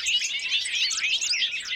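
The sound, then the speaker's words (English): A bobolink sings a rapid, bubbling stream of high, tinkling, metallic notes that tumble and warble continuously without pause, fairly loud and heard alone. “Maintaining prairies and harvesting hay fields outside of their nesting season can help bobolinks and other grassland birds find places to raise their little ones”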